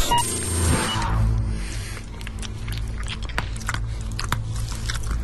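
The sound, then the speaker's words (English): Crunching and chewing of hard mints by a person wearing a mask, with a loud bite at the start followed by repeated wet, crackly mastication sounds, no talking. “Did you chew them? Yeah, of course.”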